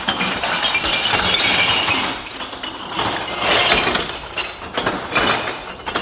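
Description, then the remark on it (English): A loud, continuous cascade of glass bottles, including clear glass, dumped into a recycling bin already holding a lot of glass, crashing and clinking with shattering bursts rising and falling over several seconds, without any talking. “There's a lot of glass in here already. And we're doing the clear glass, too.”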